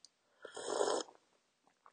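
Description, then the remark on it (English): A single airy slurp lasting about half a second, someone sipping green tea, followed by a couple of faint soft clicks in otherwise quiet surroundings. “I just talk on this podcast about interesting things while I sip green tea, so you'll hear this sometimes.”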